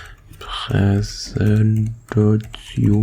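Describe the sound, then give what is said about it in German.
Scattered clicks of typing on a computer keyboard, quick, running beneath a man talking in a steady conversational voice. “Tja, ich glaube, den Stuhl oder Tastaturgedüttel wird man jetzt wohl oder übel hören.”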